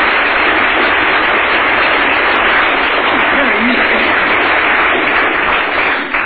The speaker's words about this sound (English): Superb. Round of applause. Both teams.